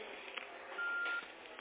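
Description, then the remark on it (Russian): A single steady electronic beep, fairly loud, sounds for about half a second over the muffled hiss and rumble of a narrow-band phone line, with no talking. “Что вас всегда пищит?”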